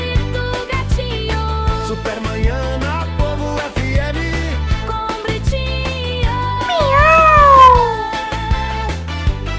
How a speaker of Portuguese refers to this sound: Esse gato tá com fome, deu leitinho a ele, deu.